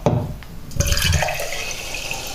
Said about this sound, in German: So, ich werde mir noch was eingießen, und zwar ein Mineralwasser. Ich habe nämlich Durst.